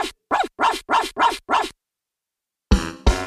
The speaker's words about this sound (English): And on that farm he had a dog, E-I-E-I-O. With a woof-woof here and a woof-woof there. Here a woof, there a woof, everywhere a woof-woof.